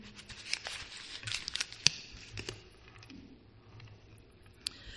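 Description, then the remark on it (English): A piece of paper being crumpled and crunched up, with dense crackling bursts over the first two seconds, then quieter, sparser rustles and one last sharp crinkle near the end. “And the only way I can describe it is like when you knock up a piece of paper like this and it's all crunched up.”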